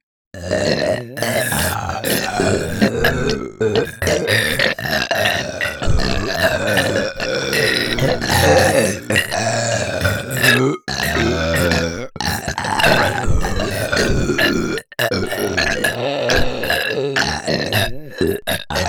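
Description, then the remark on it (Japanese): A long run of loud, drawn-out burps follows one after another almost without pause, each rumbling and guttural, with brief gaps for breath between them. “せーの、5 じゃあ最後にゲップランブいくよ。”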